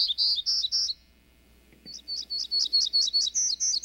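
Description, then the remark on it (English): A warbler sings a bright, buzzy song: a few rapid high buzzy notes, a short pause, then a longer run of evenly spaced buzzy phrases rising in pitch. “And, as sister species often do, they all put a unique twist on that bright, buzzy song.”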